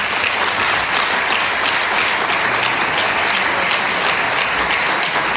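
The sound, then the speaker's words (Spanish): Sustained applause from a large crowd fills the parliament chamber of the Cortes de Aragón in Spain, loud and steady throughout, with a low murmur of voices beneath the clapping, as members of the Partido Popular benches applaud the announcement that Javier Lambán will posthumously receive the Gabriel Cisneros prize for constitutional values. “Claro, se oye un run-run entre los aplausos, y es que ahora os mando por WhatsApp el vídeo, porque se ve la Cámara parlamentaria, las Cortes, la Asamblea, el Parlamento de Aragón, allí lo llaman las Cortes, cómo se pone a aplaudir una gran parte”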